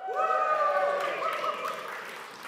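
A crowd claps steadily with a noisy wash of hands, mixed with high whoops and cheering voices rising over it, fading slightly toward the end.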